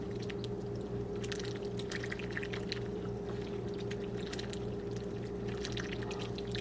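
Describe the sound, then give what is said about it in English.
Water pours and splashes steadily for several seconds as it is poured out for farmyard animals to drink, over a constant low mechanical hum; no one speaks. “take some water.”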